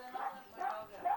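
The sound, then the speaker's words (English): A dog whimpers and whines in three short, high-pitched bursts spaced evenly apart, moderately loud, with a faint voice-like murmur underneath. “Let your dog out.”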